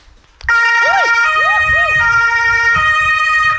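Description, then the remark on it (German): A German fire engine siren (Martinshorn), switched on by a firefighter at the wheel, starts abruptly and blares very loud and close, its pitch swooping up and down in repeated wails over a steady harmonic drone, with engine rumble underneath. “Jetzt möchten Sie einmal Martinshorn hören?”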